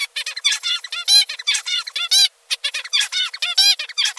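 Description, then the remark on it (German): An adult male songbird, the father of a young bird, sings a rapid, complex song, with quick harmonic chirps and buzzy notes repeating in tight phrases, broken by a brief pause midway. No talking. “Zum Vergleich der Vater.”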